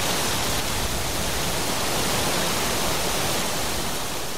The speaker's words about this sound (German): Ich fange eben an zu begreifen, dass ein Wasserrauschen nicht nur ein Wasserrauschen ist, sondern dass es tausend Nuancen von Wasserrauschen gibt, dass ich eine ganze Symphonie bauen könnte aus dem Wasserrauschen.